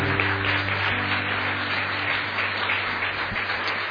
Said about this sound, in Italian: Facciamo un forte, forte applauso al Signore. Alleluia. Alleluia. Grazie Gesù.